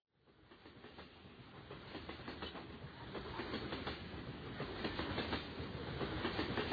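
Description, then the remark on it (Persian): A train rolls steadily along the tracks, its wheels clattering in a rhythmic clickety-clack over a continuous rumble, growing slightly louder as it goes, with no voices. “من عاشق سفرم، به خصوص سفر با قطار.”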